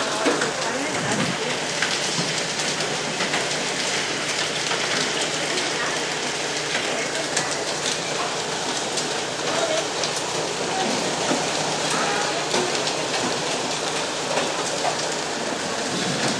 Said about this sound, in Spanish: No sé si podemos captar el audio con la granizada, con el coche en marcha, pero un coche se ha refugiado de los impactos porque vaya tela la que cae.